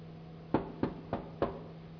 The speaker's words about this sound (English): You knock three times, no answer.